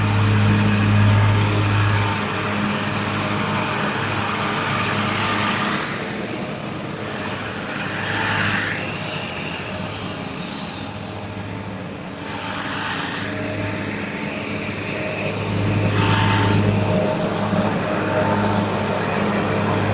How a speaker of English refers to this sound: Okay, the lawn man is here. I'm going to have to walk past the lawnmower.